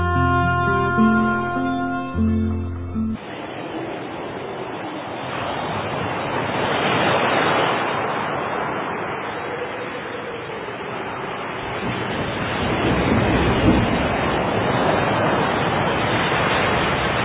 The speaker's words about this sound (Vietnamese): Mưa bão dữ dội như thế này, chúng ta chết mất. Trời mưa bão quá, chắc chúng ta chết mất thôi.